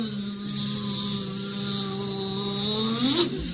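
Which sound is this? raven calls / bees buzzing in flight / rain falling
bees buzzing in flight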